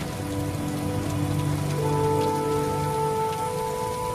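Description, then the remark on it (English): Torrential rain pours down steadily on a misty forest clearing (a bai), a dense, continuous hiss of drops hitting foliage and ground, loud throughout, with faint sustained tones humming underneath. “The Bai is shrouded in a misty curtain of torrential rain.”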